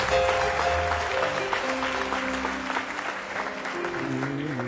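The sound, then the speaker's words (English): The Life Tabernacle audience claps steadily in dense, continuous applause as a hand clap of praise to the Lord, with sustained organ-like tones droning underneath and faint voices mixed in throughout. “Come on and give the Lord a hand clap of praise this morning.”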